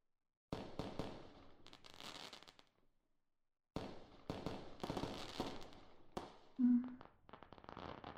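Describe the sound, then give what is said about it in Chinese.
Wedding fireworks set off outside a window burst in rapid, crackling volleys, then fall quiet for about a second before a second dense barrage of pops and bangs, with a brief whistling tone partway through. No one speaks. “这个烟花是你姐姐结婚的烟花吧？”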